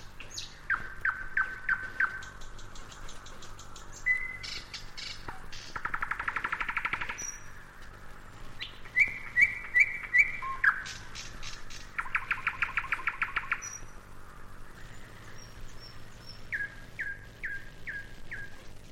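A nightingale sings alone in bushes on a warm, quiet evening, in varied bursts: clear whistles, fast clicking rattles and rolling trills, separated by short pauses over nineteen seconds.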